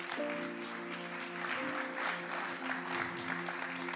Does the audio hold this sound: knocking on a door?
no